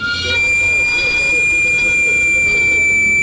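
A sweet potato cart's steam whistle, steam escaping as pressure rises in the street cart where sweet potatoes and plantains are cooked, shrieks in one steady, piercing high tone with thin overtones, sustained loudly for the full three seconds over a low, rumbling background.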